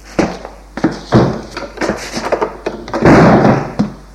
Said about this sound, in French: Une fois rentrés, la porte se ferme derrière eux.